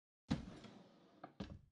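kitchen drawer being opened

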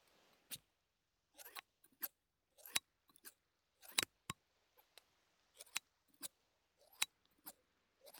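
scissors snipping

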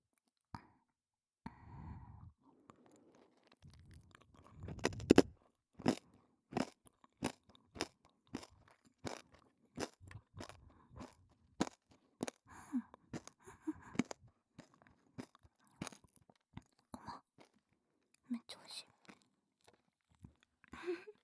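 crunchy snack being chewed

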